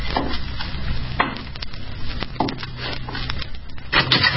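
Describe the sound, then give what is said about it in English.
A wooden door is kicked open as men go in after a desperate, armed man, with a sharp thump followed by a string of cracking, splintering crunches and scraping rattles over a steady noisy crackle. No one speaks. “Wolf, kick open that door. If it ain't open, shoot it open.”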